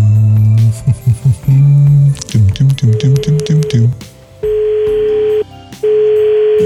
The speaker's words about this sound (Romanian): Să formăm, să formăm numărul. Domnule, ce curent e aici? După Crăciunul ăsta trebuie să schimb cabina asta telefonică, să o pun în altă parte. Sună.